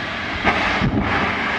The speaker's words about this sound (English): And we have ignition. And we have liftoff of Antares. The orbital three mission that brings Cygnus on its third CRS mission to the ISS.